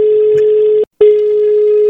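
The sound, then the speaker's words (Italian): A telephone ringing tone starting a prank phone call on the radio station Radio Toscana: a loud, steady mid-pitched electronic beep that cuts out briefly partway through, then resumes at the same pitch. No voices are heard. “Partiamo subito, vai telefono, vai ciccio!”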